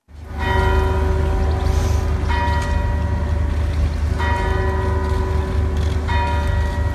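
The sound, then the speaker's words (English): Church bells ring out in St. Anne's Square in Manchester, UK, in remembrance of bombing victims, in slow succession, each heavy strike blooming into a long, shimmering hum, with a steady low rumble of outdoor ambience underneath and no voices. “Bells rang out in St. Anne's Square in Manchester.”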